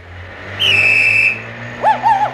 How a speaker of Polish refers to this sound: Tutaj był znak, zakaz wyprzedzania, a tamten samochód nas wyprzedził. Dokąd on się tak śpieszy?